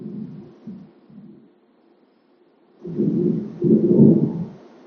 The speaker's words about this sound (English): I hear an airplane going over. I look at Square Zenda. Probably flying to O'Hare, maybe flying up from O'Hare.